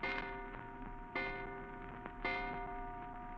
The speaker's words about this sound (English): And you're still wondering about it as you hear the clock striking in the front hall.